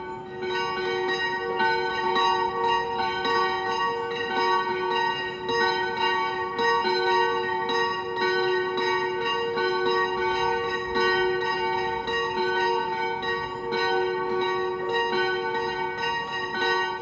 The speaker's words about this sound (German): Zu den Glocken der Kirche St. Johannes der Täufer in Kronstetten gibt es eine Sage. Sie stammt aus der Zeit, als Kronstetten noch ein Wallfahrtsort war und bekannt für den schönen Klang seiner Glocken.